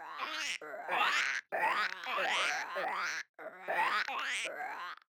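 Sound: frogs croaking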